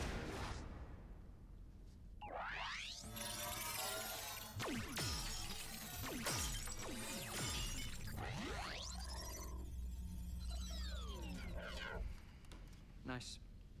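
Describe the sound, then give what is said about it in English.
Three sci-fi blaster shots at a shooting range zip out with sweeping laser tones, each followed by loud shattering crashes as the three targets break apart, layered with a low hum and busy background noise. “I hit every target. Yeah, but you took three shots. There are three targets.”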